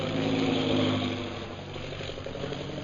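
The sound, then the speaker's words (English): A new heavy bomber plane arriving at a camp drones loudly and steadily overhead, a deep throbbing roar that eases slightly after the first second but keeps rumbling on without any voices. “That is one of our new bombing planes, now arriving for establishing our Purple Triangle Kingdom.”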